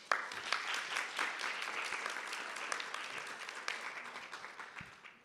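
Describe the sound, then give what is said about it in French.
An audience breaks into steady applause as a guest is introduced for a round-table presentation, a dense crackle of many hands clapping that holds for several seconds, then thins out and fades at the end. “Et on l'applaudit.”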